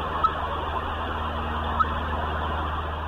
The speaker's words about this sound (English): That faint beep is the sound of a tracking device. Guess what? That's 88.